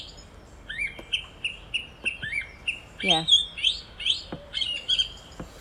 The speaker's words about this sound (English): It is a song thrush. Yes. And the good way to remember the song thrush is because they repeat phrases they like, so they just kind of like ad lib a bit, but they obviously are going, oh, I like that one.